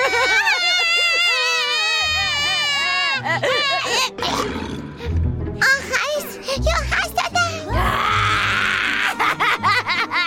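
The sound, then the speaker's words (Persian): A baby wails loudly and continuously in high-pitched cries that rise and fall, with brief breaks and gasping sounds between bursts and a noisy scene underneath. “بچه میچشه که اونجوری زار میزنه.”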